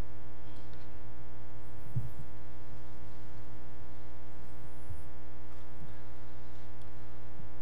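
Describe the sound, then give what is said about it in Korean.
A steady, droning hum fills the space, like an air conditioner fan running continuously in a church, set to auto or fan mode, with faint low thumps now and then and no voices. “지금 에어컨을 오토로 해놓은 것 같아요.”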